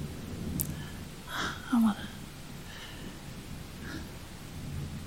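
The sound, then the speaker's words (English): Steady, heavy rain hisses throughout while low thunder rumbles underneath, and a soft human voice murmurs briefly over the storm. “And I want to feel that even as the storm rages around us.”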